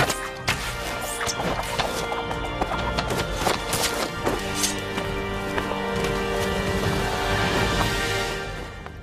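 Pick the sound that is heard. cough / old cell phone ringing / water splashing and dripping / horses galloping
horses galloping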